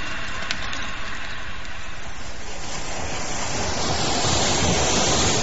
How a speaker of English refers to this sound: Now, do you have that kettle steaming again?